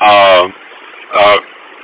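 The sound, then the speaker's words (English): Two loud, buzzy alarm bursts from a bus's set-park-brake warning, going off because the driver is out of the seat without the parking brake set: a half-second buzz, a short gap, then a shorter beep, with faint background noise, sounding thin as if heard over a phone line. “Buzzing, beeping alarm.”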